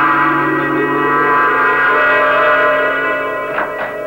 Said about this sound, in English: All I do remember is what brought me out of my trance. Who's that? Doorbell. Who?